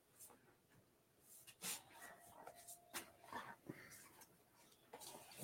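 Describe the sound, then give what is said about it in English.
A basset hound scrambles up onto a bed, with soft thumps, rustling bedding and faint snuffling breaths and a brief whimper scattered through a few seconds. “There's a dog. Huh? He jumped up here.”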